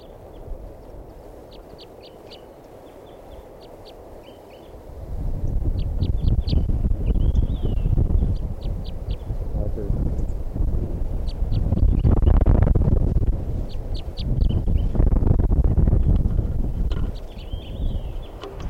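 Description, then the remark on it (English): A yellow male wild bird, the one of its flock not yet caught in a net, gives short, high-pitched calls in quick bursts of several notes, repeating throughout, soon partly buried under loud, rumbling wind noise. “I'm going to record that one bird that's not caught yet.”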